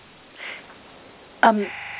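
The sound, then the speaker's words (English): A short electronic mobile phone tone cuts in abruptly near the end, a bright stepped chirp that settles into a steady beep, following a faint earlier blip over quiet background noise. “It sounds like it was my phone.”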